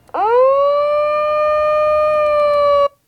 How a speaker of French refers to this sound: À 11h15 tapante, une alarme retentit et l'effet domino était enclenché.